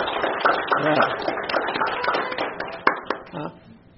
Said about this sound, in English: Let's show her an applause.